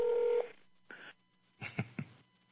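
telephone dialing and ringing

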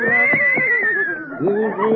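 horse whinnying

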